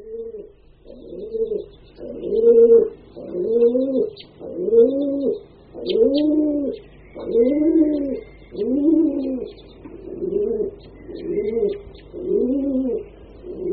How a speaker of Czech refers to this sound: Holub domácí.